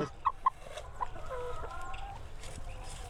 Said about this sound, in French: C'est pas trop bruyant, les poules. Parce que moi, je sais que dans un poulailler, une poule qui pond, elle chante. Quand une poule chante, tout le monde lui répond.